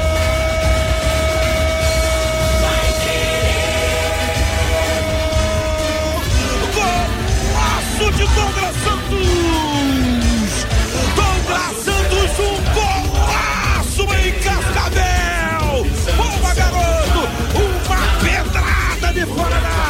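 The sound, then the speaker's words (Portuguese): A huge stadium crowd of Albiceleste supporters roars and shouts in celebration of a goal by Douglas Santos at 20 minutes of a match in Cascavel, a loud, dense, continuous wall of cheering and yelling with scattered whoops and horn-like tones throughout. “Beleza pura, valeu Douglas Santos, a 11 é dele, o grito de gol é da galera Albiceleste, Douglas Santos, um golaço em Cascavel, na marca cravada de 20 minutos,”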